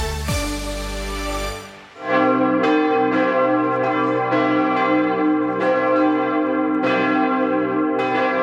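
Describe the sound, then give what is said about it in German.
Church bells of the Mariendom in Hamburg tolling at midday in mourning after the death of Pope Francis: after a brief low tone, several bells strike in an irregular, overlapping pattern, each loud stroke ringing on in a rich, sustained hum. No voices. “Trauergeläut hier am Mariendom in Hamburg nach dem Tod von Papst Franziskus.”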